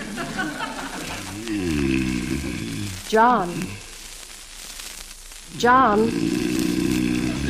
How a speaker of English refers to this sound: …, turn over on your side. You're snoring hideously.